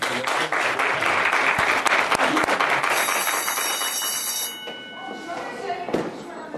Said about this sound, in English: Okay, there's the bell. Class dismissed for this session of Word Balloon University.